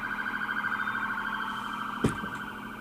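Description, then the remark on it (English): An emergency vehicle siren wails steadily outside, a sustained warbling tone that holds for the whole stretch, with a single brief knock partway through and no voices. “siren's not going away.”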